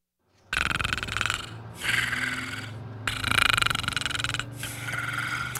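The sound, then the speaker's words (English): A person imitates snoring: four loud, raspy snorts in a steady rhythm, each with a low droning rumble underneath, with no talking. “You're snoring, ….”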